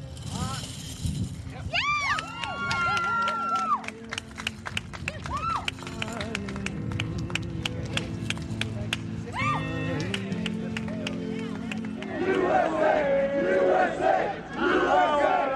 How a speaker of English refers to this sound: Then last night, there was cheering outside the White House.